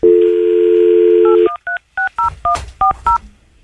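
A steady dial tone hums for about a second and a half, then cuts to a quick series of short two-pitched touch-tone beeps as a cell phone number is punched in, loud.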